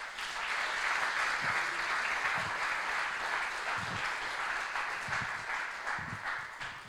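A crowd applauds steadily, a dense wash of many hands clapping at an even, fairly loud level throughout, with no voices standing out.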